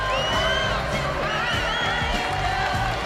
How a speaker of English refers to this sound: As the film finishes, the audience rise to their feet and applaud.